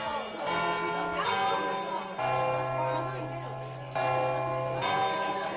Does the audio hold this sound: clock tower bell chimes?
yes